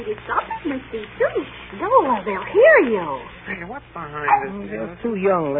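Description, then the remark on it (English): A funny little dog, carried by a young woman with yellow hair, barks and yips over and over in quick, high-pitched bursts with some whiny rising and falling cries, fairly loud, with a voice faintly underneath. “Carrying a funny little dog. Looks like a caterpillar.”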